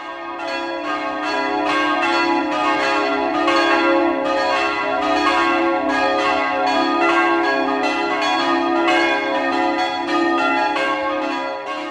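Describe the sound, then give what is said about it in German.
Church tower bells ring steadily on a freezing Christmas night, with repeated strikes blending into a full, resonant wash of overlapping tones that stays loud and even throughout, with no voices. “Klirrende Kälte zur Weihnachtsnacht, noch einmal ertönt es sacht, das Halleluja, die Engel singen, am Kirchturm die Glocken klingen.”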